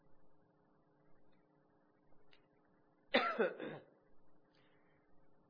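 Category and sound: human body sound, coughing and throat clearing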